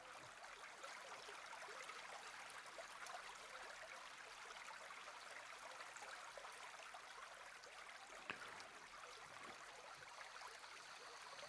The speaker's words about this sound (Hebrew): אני אתחיל ככה ליצור את הסאונדסקייפ של הצלילים של הטבע, ויש לנו הרבה טבע היום. אז נתחיל קצת מצלילים של מים.